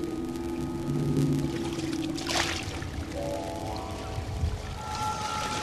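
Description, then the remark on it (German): Water rushes and swirls steadily around a ship drifting in the current off a harbour mouth after a storm, its anchor not holding; a continuous wash broken by low, drawn-out tonal groans and creaks from the hull. No one speaks. “Wir liegen vor der Hafenmündung. Immer noch ist Wasser zwischen uns und dem Land. Wir treiben.”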